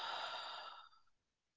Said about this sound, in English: And take a long, slow breath in through your nose and gently exhale through your mouth.